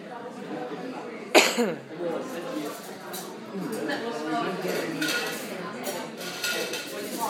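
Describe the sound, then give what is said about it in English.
Cutlery and dishes clatter and clink steadily, with one sharp loud clang early on, while indistinct voices murmur underneath throughout. “Or maybe I'm just adding to the general cacophony of cutlery.”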